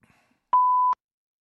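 A single steady electronic answering machine beep on a telephone, clean and mid-pitched, holding for about half a second with sharp clicks at its start and end, heard alone against near silence.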